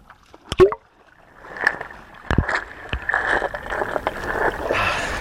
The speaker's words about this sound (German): Erstmal schmeiße ich das Ding ins Wasser und springe gleich hinterher.